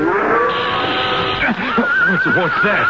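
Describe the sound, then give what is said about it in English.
A spooked horse lets out agitated, wavering whinnies, several shrill rising-and-falling squeals in quick succession over the steady hissing rattle of a rattlesnake. “Just hold that horse of yours.”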